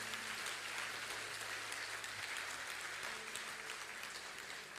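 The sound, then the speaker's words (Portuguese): Sustained applause from a large crowd, a dense wash of clapping that stays steady and loud for several seconds before easing slightly, with a low background hum underneath. “Dê uma salva de palmas.”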